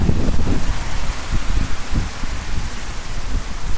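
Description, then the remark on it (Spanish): Heavy rain pours down steadily in the streets of Santiago early in the morning, a loud, dense hiss with low gusty rumbles underneath and no voices. “Así sonaba la lluvia a primera hora y más fuerte aún a las 5 de la madrugada, cuando tuvimos un auténtico cóctel meteorológico.”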